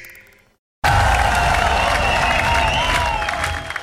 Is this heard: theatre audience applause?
yes